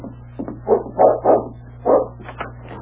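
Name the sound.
dog barking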